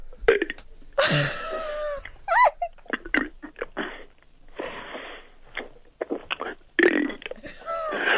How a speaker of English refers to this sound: Go on then. Can you burp the alphabet?